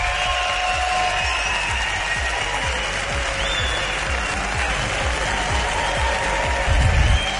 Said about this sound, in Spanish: y a todos los que han venido a vernos a este teatro de Murcia abarrotado de gente guapa, os pido un aplauso para que se note que estáis ahí.